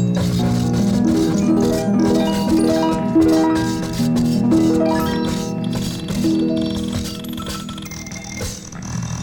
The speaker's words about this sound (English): The sound of a harp.